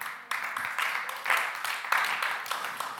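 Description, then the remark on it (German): Dense, continuous applause from a crowd, a steady wash of many hands clapping at once with bright, crackly texture and small swells in loudness, with no voices standing out. “Das Klatschen wird euch gleich vergeben bei dem nächsten Beispiel.”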